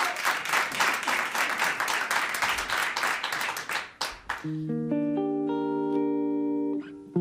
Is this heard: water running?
no